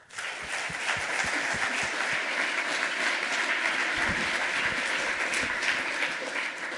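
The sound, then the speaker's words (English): An audience applauds steadily to welcome a speaker before a talk on using Cartesian genetic programming to evolve image filters, a dense wash of many hands clapping at an even level for several seconds, with no voices standing out above it. “So let's have a warm welcome for him, and we are lucky to have him for this talk.”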